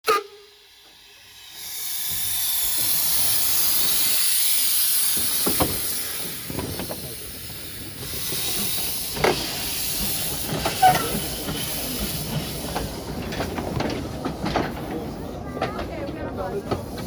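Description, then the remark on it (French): A steam locomotive of the Scarpe steam railway hisses steadily during a short stop at the line's terminus, a broad loud wash of escaping steam with scattered clanks and knocks, while a man talks faintly in the background. “Durant la courte pause du train du chemin de fer à vapeur de la Scarpe, au terminus de la ligne, j'ai pu rencontrer un des voyageurs.”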